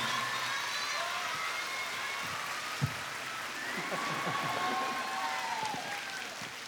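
Sustained audience applause, a dense steady patter of many hands clapping at an even level throughout, with faint cheers and a few brief shouts rising through the crowd noise.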